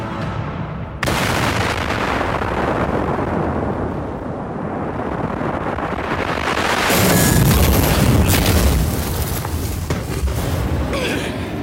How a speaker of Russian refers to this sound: Рассеивающийся магический взрыв, когда магия под предельным давлением смешивается с воздухом. Даже если получится уклониться от самого взрыва, тебя прикончит кислородное голодание и отравление угарным газом.